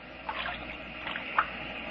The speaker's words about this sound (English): Imagine going to sleep to the sound of waves.